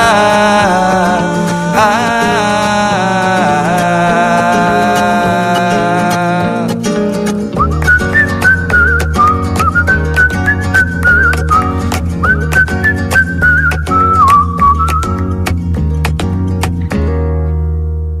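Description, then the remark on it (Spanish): A clear whistled melody floats over a steady, rhythmic band accompaniment at the end of a song, after an instrumental opening, carrying on for several phrases before the music winds down. “Digo, ¿por qué no sigue ese silbido tan bonito al final de la canción?”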